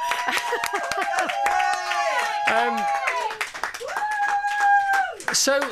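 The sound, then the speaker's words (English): A steady round of clapping runs throughout, with excited voices whooping and cheering over the applause, their pitches rising and falling. “I think that deserves a controlling round of applause.”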